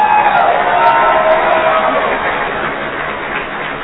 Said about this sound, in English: I got to give a big round of applause to my co-host